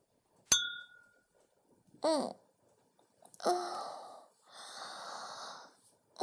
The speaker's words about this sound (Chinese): 算了算了，先喝吧，能喝多少算多少。来，干杯。